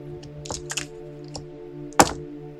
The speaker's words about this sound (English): Here we have Shinnereth attempting the first dice roll of the show. This will be an athletics roll. Shinnereth will roll 2 strength dice, 3 athletics dice, and 1 bonus die for her nocturnal background.